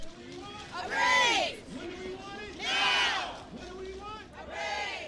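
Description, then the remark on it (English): A protest rally crowd of about 75 fast food workers and union members chants in unison outside a Burger King in Dorchester, Boston, demanding a $15 minimum wage on a national day of protests over income inequality. Many raised voices swell into three loud, rhythmic shouts with brief dips between them. “Among them were 75 people who rallied outside a Burger King in Dorchester this afternoon”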